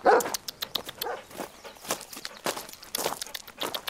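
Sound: search dog barking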